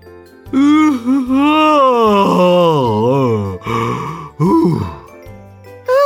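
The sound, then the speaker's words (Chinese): A man over there yawns loudly, a drawn-out yawn with a wavering, groaning pitch, stretching over several seconds and ending in a few shorter breathy gasps, alone. “那边有个叔叔在大声打哈欠。”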